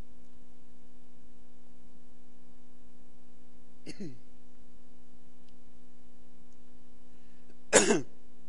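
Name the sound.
coughing and throat clearing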